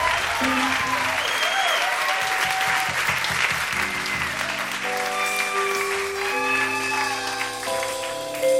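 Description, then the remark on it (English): A crowd applauds steadily and loudly throughout a live concert recording made at the Bottom Line in 1989, a dense wash of clapping; partway through, sustained musical notes begin sounding beneath the applause as a performance starts. “Leave the applause in.”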